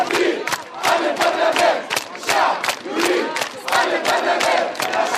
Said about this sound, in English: Crowds of mostly youthful Tunisians shouted "Get out!" and waved signs calling for the dissolution of parliament and early elections.